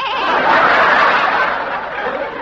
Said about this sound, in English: That was a small goat, a little kid.